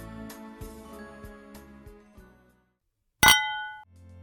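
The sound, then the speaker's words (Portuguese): Wine glasses clink once in a toast, a sharp bright ring that hangs briefly and fades. Before it, soft rhythmic music plays and drops away into a moment of silence. “Brinde história? Tchim, tchim. Tchim, tchim.”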